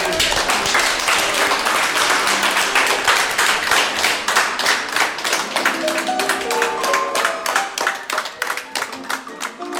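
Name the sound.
audience applauding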